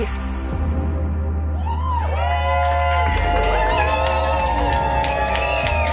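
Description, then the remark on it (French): A small crowd cheers after a song in a live radio session on CISM, broadcast from URSA on avenue du Parc in Montreal, with scattered whoops and high shouts rising over a steady wash of clapping and a low constant hum. “Petite main d'applaudissement.”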